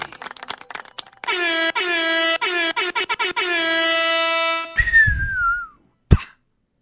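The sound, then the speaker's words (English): A loud, sustained horn-like blare, followed by a falling firework whistle with rumbling crackle and a single sharp bang. No one speaks. “You heard the fireworks, Herb?”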